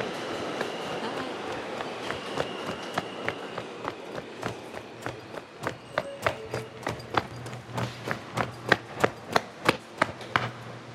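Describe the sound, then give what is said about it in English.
A train clatters along with a low rumble, its rhythmic clacks speeding up and growing louder. No one speaks. “Sorry, that I really gotta get this train.”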